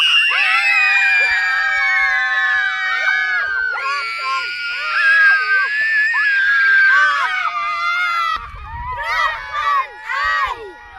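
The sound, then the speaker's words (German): Many children shriek and scream at once during a shouting game, a loud, sustained chorus of high voices that rises and falls, with a brief lull near the end before more shouting bursts out. “Aber leider stehen sie in der Mitte. Und noch viel lauter schreien, als ihr schreit.”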